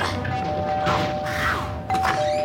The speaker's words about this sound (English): Testing doorbells now?